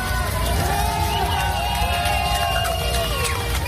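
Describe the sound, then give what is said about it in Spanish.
An outdoor crowd of residents in Rostov, Russia, keeps up a steady roar of cheering and raised voices, with scattered clapping, as the Wagner leader leaves the city at night. The noisy, busy street hubbub fills the whole moment without pause. “el propio Prigozhin abandonaba Rostov en medio de los aplausos de algunos vecinos de esa ciudad”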